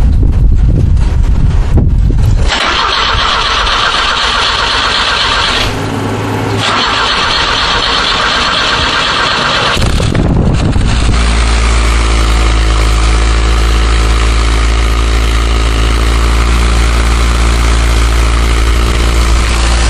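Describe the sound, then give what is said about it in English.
The small engine of a 1975 Fiat Spider cranks briefly, catches and settles into a steady, loud idle heard up close, about two inches from the exhaust pipe, with a rough low rumble and a rev bump partway through. No one speaks. “I'm going to take you downstairs and you can listen to the sound of Tom's car, which is a 1975 Fiat Spider.”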